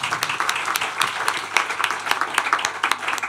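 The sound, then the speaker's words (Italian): An audience applauds steadily, a dense patter of many hands clapping with sharp individual claps popping out of the wash, sustained at an even, moderately loud level throughout. “Un applauso.”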